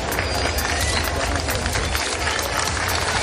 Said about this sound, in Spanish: Luego, don Felipe y doña Leticia han visitado la zona del siniestro y han agradecido el trabajo de los servicios de emergencias. Los vecinos les han recibido con aplausos.